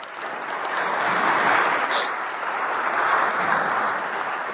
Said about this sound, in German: Einen großen Applaus für die beiden.